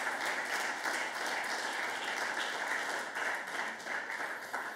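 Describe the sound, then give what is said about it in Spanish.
A large crowd claps hands steadily and loudly as an offering of applause to God, a dense continuous wash of applause filling the whole stretch without pause. “Dele una ofrenda de palmas al Dios de la gloria.”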